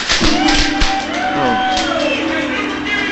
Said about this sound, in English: I guess when you buy a car here, you get to bang a gong. Yeah, you get to bang the gong. I just bought a brand new Buick.